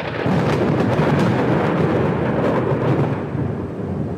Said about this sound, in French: À l'horizon, et pourtant proche, la foudre fendait les nuages. Une pluie paradoxale s'abattit sur les voyageurs. Le vacarme était assourdissant.